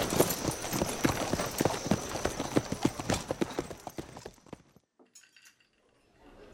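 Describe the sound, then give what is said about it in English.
Several riders' horses' hooves clip-clop in a brisk, steady rhythm as they turn and ride away, loud at first and then fading, leaving near silence. “With submissive touches of their hands to the brims of their hats, they turned their horses and rode away.”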